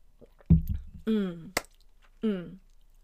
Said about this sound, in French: Je vais prendre une petite gorgée de café et je continue.